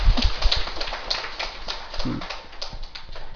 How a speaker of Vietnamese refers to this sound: Thì bây giờ xin quý vị vỗ cho đàn pháo tay đi.